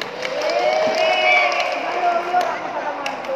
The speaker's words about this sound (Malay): Tepuk tangan dulu.